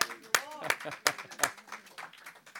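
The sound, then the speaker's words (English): A few sharp hand claps land in a steady rhythm, about four in quick succession, while a voice cheers and talks between them. “I just feel like I want to stand up and give a rousing applause to Joseph and Mary.”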